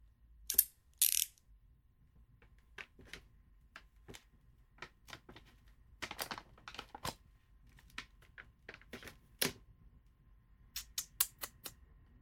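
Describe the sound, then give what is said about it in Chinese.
Mechanical clicking and ratcheting as a chastity lock is worked open: two harsh scraping bursts, then a long series of sharp, irregular metallic clicks ending in a quick rattling flurry. No one speaks. “现在主人要给你打开贞操锁了。”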